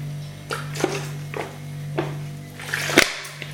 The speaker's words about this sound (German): Ich würde erstmal was trinken. Ich stell den mal, nee, ich lege den mal lieber hin. Die alten Geräte stehen nicht ganz so, deswegen werden wir mal ein Schlückchen Wasser trinken. Ja.